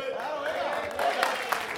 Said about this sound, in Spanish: Con un fuerte aplauso le damos este certificado